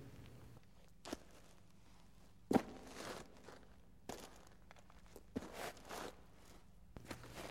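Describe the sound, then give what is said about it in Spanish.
Slow, hollow footsteps sound one at a time in a quiet village, about five steps spaced unevenly over several seconds, each a sharp knock echoing off walls lit by the setting sun, with no voices. “Oía mis pisadas huecas, repitiendo su sonido en el eco de las paredes teñidas por el sol del atardecer.”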